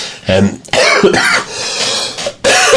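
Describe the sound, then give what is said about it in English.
A person coughs repeatedly, several harsh bursts in quick succession with a rough throat-clearing quality, loud and with no talking. “I think it's going to be a slightly shorter show from us, because I'm coughing, you know, the amount of editing I'm having to do in this to cut the coughs out.”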